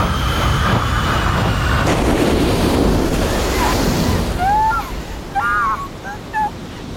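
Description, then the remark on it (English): Churning sea waves roar in a dense, steady wash as a crashed metal aircraft is sucked under. The wash thins out after a few seconds, leaving a few short, high whistling chirps over a quieter background. “They were all trapped, sealed tight within that metal coffin as it was sucked under the churning sea.”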